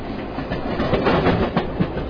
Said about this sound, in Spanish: Y como oyen, nuestras amigas van en un largo viaje en tren.